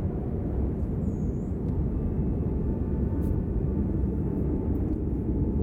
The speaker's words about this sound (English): Wind's picking up a bit, though.